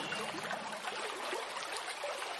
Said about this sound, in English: You hear the water. You can hear the birds. How do you feel? How do you feel listening to that? What does that do to you?